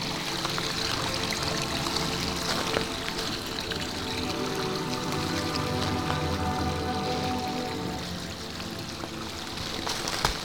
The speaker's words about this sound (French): On longe un petit ruisselet.